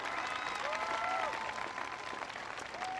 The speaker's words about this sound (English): First of all, give Joe a big round of applause for the wonderful introduction.